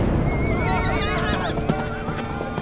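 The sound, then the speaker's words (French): Two horses harnessed to one of the queen's carriages whinny loudly and repeatedly, rearing at fire and noise during a violent storm with thunder. Their wavering neighs overlap above a dense, rumbling background of agitated movement, with a few sharp knocks near the end. “Deux de nos chevaux, attelés à l'un des carrosses de la reine, se cabrèrent à cause du feu et du bruit.”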